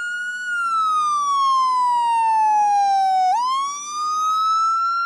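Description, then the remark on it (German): A small red toy siren wails steadily, its pitch sliding slowly down before sweeping sharply back up, loud with no talking. “Ich hole eine kleine rote Sirene aus der Schatzkiste.”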